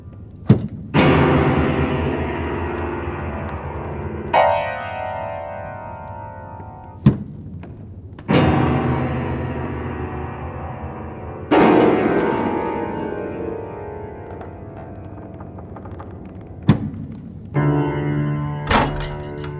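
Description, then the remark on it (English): Heavy, irregular thumps of people banging on tables, each hit loud with a ringing, resonant decay, several overlapping strikes spread across the stretch with no talking. “They've all started banging their tables.”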